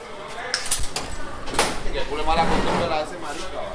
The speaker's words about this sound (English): A heavy metal door draped with a purple curtain is all that separates the restaurant from the prison.